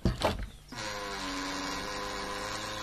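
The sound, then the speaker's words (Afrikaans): A few quick knocks on a front door, then the door creaks open in one long, steady, groaning drawn-out squeak that holds its pitch for about two seconds, clear with no voices. “Die deur kraak toe dit oopswaai.”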